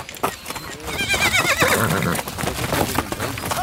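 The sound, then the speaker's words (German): A horse whinnies loudly with a wavering, rising-and-falling cry while hooves clip-clop steadily underneath, prominent throughout, as a rider swings up onto the horse, swings a lasso and drives cows through a gate in the dust of red earth. “Und dann, wenn er sich plötzlich hoch auf das Ross schwingt und tatsächlich das Lasso schwingt und die Kühe vor sich hertreibt, durch das Gatter im Staub der roten Erde, dann spürt man, er trägt es in sich, das Blut des Cowboys.”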